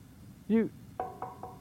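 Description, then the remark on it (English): Four quick, evenly spaced knocks on a door, each with a short hollow ring, follow a brief vocal sound. The knocking is moderately loud. “When you knock on a door, you just don't go.”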